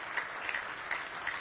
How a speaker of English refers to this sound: Give our singers a nice hand this morning as they come to sing.